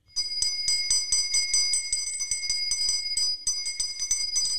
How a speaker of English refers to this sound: What is that supposed to be? Ice cream bell. Where are you buying ice cream?